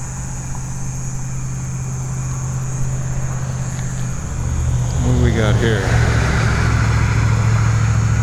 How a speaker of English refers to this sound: There's a lot of traffic this way too. Why is there so much traffic? It's the middle of the night. And it's not trucks, it's all cars. It's all local cars.